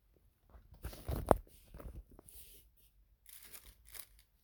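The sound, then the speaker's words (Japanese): A plastic bag is squished and crinkled in irregular rustling bursts with a sharper crackle near the start, then softer intermittent crinkles. No one speaks. “ビニール袋うまくできるかな。”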